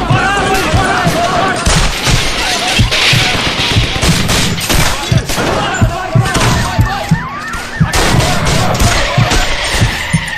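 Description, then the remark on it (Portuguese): Loud, rapid bursts of gunfire crackle continuously, sharp shots at a police officer from a fleeing car piling over one another in a dense, chaotic barrage, with indistinct voices mixed underneath throughout. “Fugindo no carro, tocando tiro no coração do polícia Miro.”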